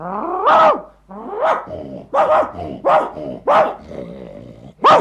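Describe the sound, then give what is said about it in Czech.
Village dogs on a meadow bark loudly at another dog, Broček, about half a dozen sharp yapping barks in quick, uneven succession, some overlapping, with no talking. “Sotva pejskové uviděli Bročka, rozkřikli se na něho.”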